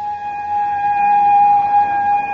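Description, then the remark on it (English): A police car's siren holds a steady, piercing tone for a couple of seconds, growing slightly louder as if drawing closer, as the car stops in front of a house. No one speaks. “Look, there's a police car stopping in front of the house.”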